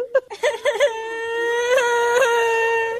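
child crying

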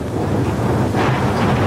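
storm wind

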